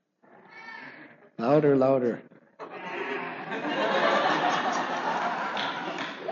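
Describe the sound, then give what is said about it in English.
People imitate a sheep's bleat: a short wavering vocal baa, then a louder quavering one, followed by a long noisy chorus of many voices bleating together, with a brief spoken prompt mixed in. “What's the sound that sheeps make?”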